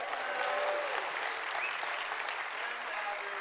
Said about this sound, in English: Can we just show a round of applause?